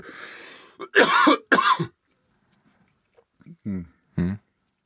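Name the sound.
coughing and throat clearing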